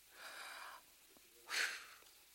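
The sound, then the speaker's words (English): A single deep breath, a soft airy inhale followed after a pause by a louder, rushing exhale, with no talking. “Take a deep breath.”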